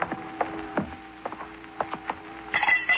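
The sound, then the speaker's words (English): Small objects drop into a blind beggar's tin cup holding a stack of pencils, making a series of sharp clinks and rattles with a faint metallic ring lingering underneath. No one speaks. “A beggar sitting with his legs folded and on his lap a tin cup with a stack of pencils.”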